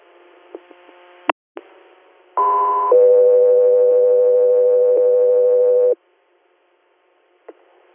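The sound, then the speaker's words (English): Two steady electronic radio dispatch alert tones for Guthrie play back to back, a higher tone for about half a second, then a lower sustained tone for about three seconds, with brief clicks before and after and no talking. “Guthrie, standby for tones.”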